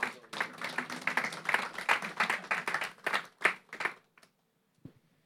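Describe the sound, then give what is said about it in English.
A church audience applauds with dense, rapid clapping for about four seconds as helpers come up to the front, then it quickly dies away to near silence with a last stray clap or two. “You can give them a round of applause as they come up.”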